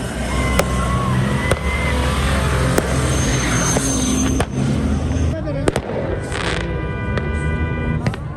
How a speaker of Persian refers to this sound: با غروب آفتاب، زمانی که شب فضا را در این صحرای ریگی تاریک میسازد، تجمع تماشاچیان که همه مردان هستند به جشن آتش بازی و آتش افروزی مبدل میشود.